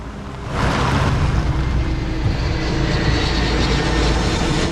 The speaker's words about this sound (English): An aeroplane flies low above a tower block.